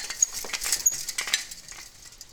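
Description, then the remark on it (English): Soft, steady pattering of rain falling outside, heard through an open window, spread across the upper range, with faint scattered ticks and drips. Quiet, with no voices. “It's raining out there.”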